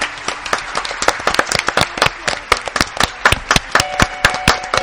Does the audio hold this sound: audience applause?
yes